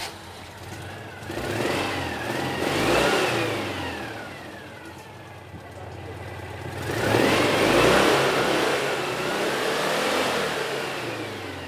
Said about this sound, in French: C'est un vrai bruit de deux chevaux, ça, hein